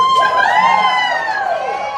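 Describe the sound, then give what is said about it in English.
A concert audience cheers loudly and steadily as a keyboardist and vocalist from Seattle, Washington, is introduced, with a sustained roar and rising, falling whoops and whistles carrying over the crowd noise throughout. “Cheer him on.”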